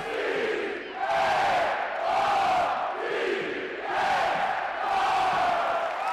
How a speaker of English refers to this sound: who up in one of the corners jumped up on one of the railings and started doing the C-A-R-D-S cheer.